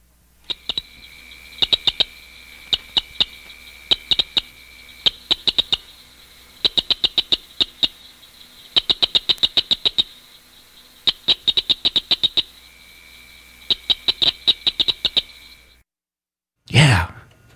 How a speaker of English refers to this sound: This is one. The cricket frog, Acris grillus dorsalis, is the smallest species in the chorus.